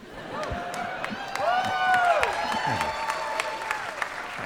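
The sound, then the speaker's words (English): A live audience breaks into sustained applause, dense clapping rising to a peak before easing slightly, with cheering and whooping voices riding over the clapping throughout. “Now you guys are applause crazy.”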